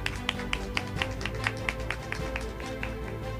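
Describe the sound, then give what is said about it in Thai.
Audience applause for an award winner from the non-formal education office of Suphan Buri province, Thailand, comes through as a steady, evenly spaced run of sharp claps, roughly four per second, moderately loud over a low, constant background hum, with no one speaking. “ขอเสียงปรบมือนะครับ”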